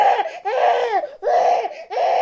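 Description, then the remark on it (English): A baby screams in four loud, shrill cries, each wavering up and down in pitch, separated by brief gasping breaths, with no talking. “If you hear that kind of scream, does it elicit a much, much quicker reaction from a caregiver?”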